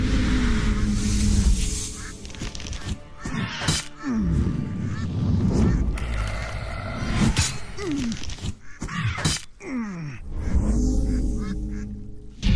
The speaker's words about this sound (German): Und im Hintergrund schnattern die Enten. Und das ist mit einbezogen. Das ist ja cool. Oder höre ich das jetzt nur wegen dem Menü? Jedenfalls sehr schöner Effekt.